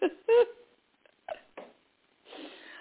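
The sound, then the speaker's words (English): A female dog whimpers in a few short, whiny bursts, wanting to play, followed by brief breathy snuffles and a soft rustling huff at the end. The sounds are moderately loud with quiet gaps between them. “Hi, dog. She wants me to play.”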